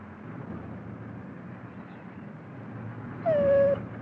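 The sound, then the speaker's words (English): A dog, Lassie, lets out a single short, high whimper near the end, sliding slightly downward in pitch, over a steady low rumble like an idling vehicle. “What is it, Lassie?”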